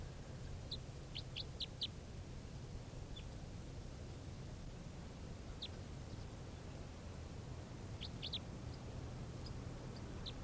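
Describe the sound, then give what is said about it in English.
Short, high-pitched calls from a wild bird, a type 3 variant call, come in quick clusters of three or four, separated by pauses, over a steady background hiss and a low hum, as the bird's calling is recorded. No one speaks. “Recording the bird's calling now.”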